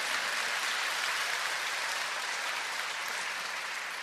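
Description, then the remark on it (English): Steady audience applause at a sermon given in English and French fills the whole stretch, a dense crackle of many hands clapping at an even level without pause, with no voices standing out. “Oui, vous pouvez applaudir.”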